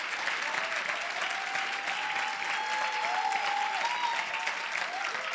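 An audience claps hands in a dense, steady wash of applause for several seconds, with faint voices and a few high cheers or calls rising through the noise.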